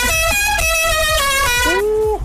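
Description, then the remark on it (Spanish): Car horns honk over and over in a traffic jam, several loud, buzzy blasts overlapping and shifting in pitch, with one horn bending upward near the end. No one speaks. “Oye, en el tráfico el mismo atasco de siempre.”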